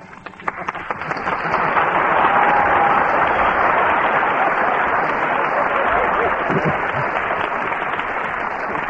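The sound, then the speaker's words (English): An audience, prompted by an applause sign, bursts into applause for Stupnagel and Bud on the town hall program, swelling within the first second into a dense, steady roar of clapping that holds for about eight seconds, with a faint brief whistle-like tone early on. “I heard that applause.”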